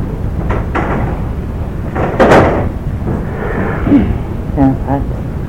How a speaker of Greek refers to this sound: Να κλείσουμε την πόρτα.